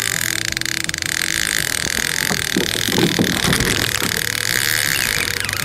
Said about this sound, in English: Hitting the brakes. There we go. Just made the turn.